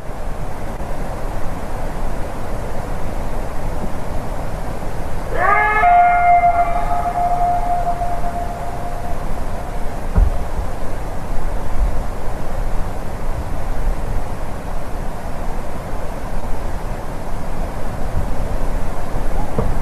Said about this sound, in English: But what I thought is maybe it's some sort of like a coyote with some injury or something, because it really does sound coyote-ish. Let's listen to it one more time here.